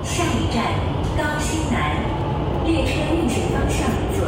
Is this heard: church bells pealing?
no